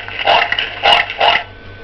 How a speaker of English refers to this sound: Pig. Pig.